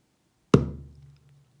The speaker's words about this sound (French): Par exemple, si l'on frappe au centre de la peau avec tous les doigts réunis de la main droite, on obtient un son grave. Boum. Boum.